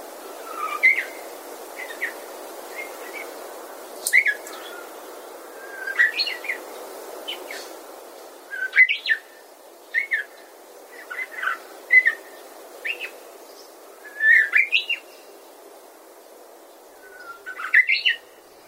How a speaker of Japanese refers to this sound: さて、今お聞きいただいているようなまだ不完全なさえずりをグゼリ、英語ではサブソングと言います。幼い鳥がさえずりを学ぶ段階で歌う未熟な歌は典型的なサブソングです。